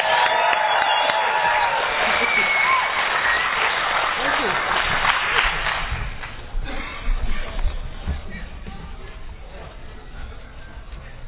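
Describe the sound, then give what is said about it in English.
A crowd at the opening of a convention meeting applauds and cheers loudly for several seconds, a dense wash of clapping that gradually thins and fades as a voice briefly speaks over it. “With the same energy, can we give one round of applause? Let's make some noise.”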